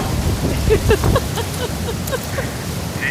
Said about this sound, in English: It's a little bit of rain, but... You're there all by yourself. You know, that umbrella is not doing you any good. It's all backwards. And I wouldn't even... Just let the umbrella go. Just enjoy the storm.